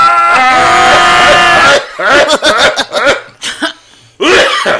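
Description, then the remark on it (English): A loud, drawn-out vocal cry gives way to a run of harsh, loud coughs in quick, uneven bursts, unaccompanied by speech. “Cough real loud.”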